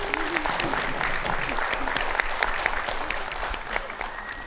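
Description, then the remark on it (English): An audience claps for a panel of speakers in sustained applause, a dense field of overlapping hand claps at an even, fairly loud level throughout, with faint murmuring voices underneath. “round of applause for our amazing panelists.”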